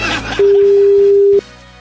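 A single steady ringback tone from an outgoing phone call sounds for about a second, loud and clear, with a faint background murmur before and after it.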